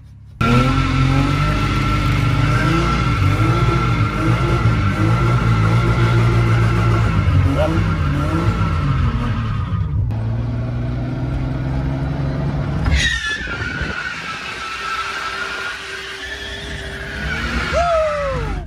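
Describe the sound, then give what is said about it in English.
A car engine revs hard, its pitch rising and falling, then tires squeal sharply in long, high sliding screeches as the car drifts. “Yeah, but I could do drifting Aikido.”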